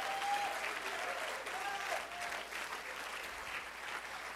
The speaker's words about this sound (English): If you love his church, clap your hands unto him and bless his name.